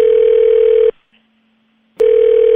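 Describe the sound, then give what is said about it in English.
A loud, steady telephone tone after a hang-up drones for about a second, cuts out for a pause, then starts again, clear with no voices. “Tell Randolph I'm going to come over there and slap both of y'all for playing these games and hanging up the phone.”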